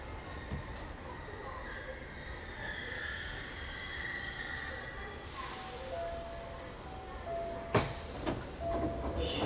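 A commuter train rumbles along the rails with a steady, dense roar, a faint high whine and occasional squeals, then a broad hissing surge near the end, loud and close throughout.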